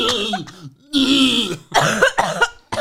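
A voice puts on an exaggerated, theatrical cough: several loud, rasping bursts close to the mic, mixed with throaty hacking and throat-clearing, with short gaps between them and no speech.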